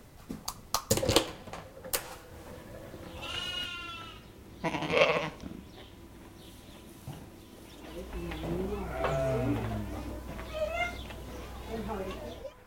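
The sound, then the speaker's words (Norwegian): Sheep bleat several times in an indoor sheep barn, wavering cries, with shuffling, knocking and a low rumble in the background. “Ja, nå befinner vi oss her i Sauefjøset, og her storkoser sauene seg.”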